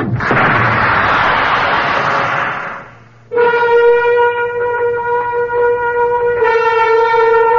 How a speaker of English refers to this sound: They said something about an overload, an explosion.